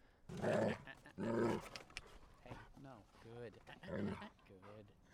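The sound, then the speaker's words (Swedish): Large dogs, one a very big wolf-like dog of about 26 kilos, growl and bark in bursts while playing at a dog park, with loud rough vocalizations and a few whining tones; people talk at times. “Nu är det en jättestor hund där inne som ser ut som en varg.”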